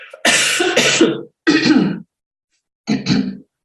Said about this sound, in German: Achtung, Husten.